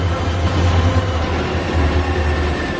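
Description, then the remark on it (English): A train in Switzerland rolls by loudly, a steady heavy rumble of wheels on rails with thin metallic squealing tones riding over it for the whole stretch, no voices. “Yeah, we do have trains in this country.”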